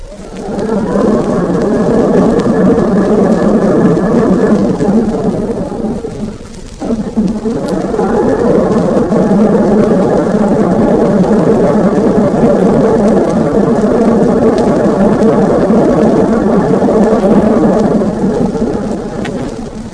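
Submarine bow planes running under power: a loud, steady mechanical whirring drone with a gritty, churning texture. It dips briefly once, then resumes and continues unbroken.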